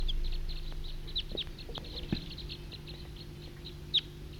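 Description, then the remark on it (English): Wild birds call in a steady stream of quick, high chirps, fairly faint and continuous, with one sharper, louder note near the end, over a low background hum. “Wild bird. Wild.”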